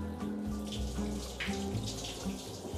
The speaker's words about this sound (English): It's a waterfall, dog. I got a tiny waterfall in the tub, bro.